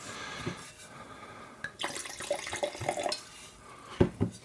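Liquid is poured into a glass to top up a drink, in a steady, splashy gurgle for a second or so, followed by a couple of light glassy clinks and taps. No one speaks.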